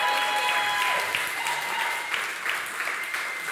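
A crowd claps steadily in a dense, sustained wash of applause that holds fairly even in loudness throughout, with a faint tonal hum running underneath.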